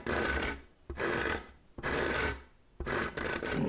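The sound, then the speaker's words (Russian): Rough, rasping scratching at a wooden door by a bear during a snowstorm, four drawn-out strokes with brief pauses between them, fairly loud, with no voices. “Вдруг кто-то заскребся в дверь.”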